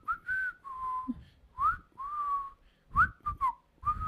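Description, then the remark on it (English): A person whistles loudly in a series of sharp, piercing tones, some rising and some held, with short breathy gaps between the bursts and no talking. “Oh my God, it hurts my ears. It's like a sonic wave. It's so loud.”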